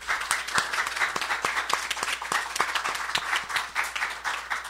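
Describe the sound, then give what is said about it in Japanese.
An audience at a church worship service applauds together in thanks to the Lord, many hands clapping in a dense, steady burst that holds at an even moderate loudness for several seconds, with no voices over it. “それではご臨在の主に感謝の拍手をしてまいりましょう。”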